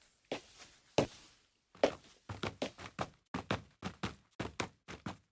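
Footsteps of various types of shoe on hard surfaces, sampled from a footstep sample-library instrument plugin: a few slow separate steps at first, then a quicker steady run of crisp treads, each a sharp thud with a brief scuff.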